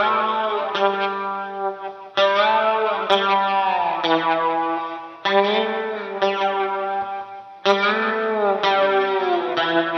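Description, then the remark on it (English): Sustained electric guitar notes played with a slide on a guitar with raised action for more sustain, pitch gliding and bending across four swelling phrases, heavily processed with a sweeping flanger effect that gives a warbling, metallic shimmer. No voices. “You know, like weird kind of tones like that, which is like, again, I'm using the flanger, you know? So it's like slide with flanger, which I've like never done before, you know?”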